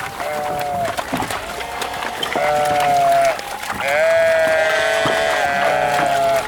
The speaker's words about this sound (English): Sheep are like people. They'll follow each other if you just give them a chance.